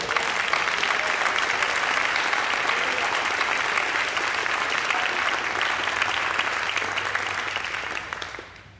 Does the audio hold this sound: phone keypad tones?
no